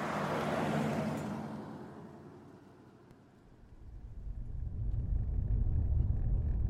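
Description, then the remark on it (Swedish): A packed car, with equipment in the trunk, drives along a road toward a mountain: a broad rushing wash fades out, then a deep, steady engine rumble swells and holds loud. No voices. “Jag packade bilen, slängde utrustningen i bagaget och började köra mot berget.”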